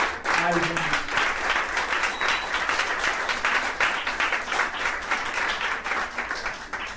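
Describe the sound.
Sustained applause from an audience, a dense, steady wash of many hands clapping at a fairly loud level for several seconds, with faint voices and a brief cheer mixed in at the start.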